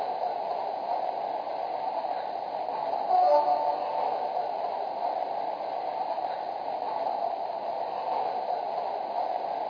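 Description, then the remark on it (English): Passenger train number 212 rumbles steadily as it pulls away from track 2, bound for Greenport, a constant wash of rail noise with a brief, faint horn-like tone partway through. No voices. “Now departing for Greenport on track 2, train number 212, the Peconic Bay Express.”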